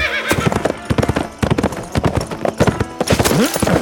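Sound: horse hooves clip-clopping away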